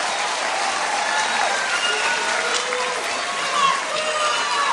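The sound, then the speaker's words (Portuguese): A crowd in Mauá, Brazil, at an event with President Lula applauds the SUS health professionals of the ABC region. The applause runs steadily for several seconds, dense clapping filling the whole stretch at an even, fairly loud level, with faint voices and a few cheers mixed in. “Eu queria uma salva de palmas para todos os profissionais da saúde do SUS aqui da região do ABC.”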